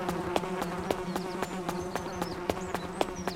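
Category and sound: insect, bee buzzing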